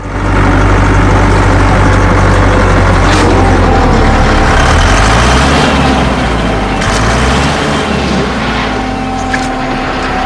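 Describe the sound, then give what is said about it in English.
A JCB excavator approaches in a makeshift complex with its bucket held aloft, its heavy diesel engine rumbling loudly and steadily, the deep low growl rising and falling in pitch as the revs shift, with metallic rattling over the top throughout. “A JCB approaches, its excavator bucket held aloft.”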